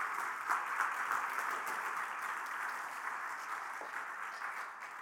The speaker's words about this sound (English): But let's even give them an extra round of applause for all the service that they do.